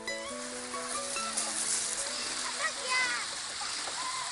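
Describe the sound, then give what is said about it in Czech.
A steady rush of flowing water fills the scene with light splashing throughout, while voices and tonal sounds carry faintly in the background at the Mamutík water park, a children's water playground in Dolní Morava. “Jak můžete slyšet okolo mě, tak i v tomto díle zůstaneme chvíli ještě na Dolní Moravě, na dětském hřišti, které se jmenuje Mamutíku vodní park.”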